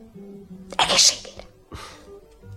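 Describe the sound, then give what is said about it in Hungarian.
A single sneeze bursts out sharply, followed a moment later by a softer, breathy exhale against a quiet background. “Egészségére.”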